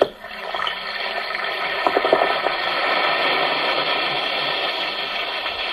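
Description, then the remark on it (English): A steady, bright hiss of fizzing bubbles from an Alka-Seltzer tablet dissolving in water. A brief cluster of crackling pops comes early on before it settles into an even sizzle. No voices. “Listen to it fizz.”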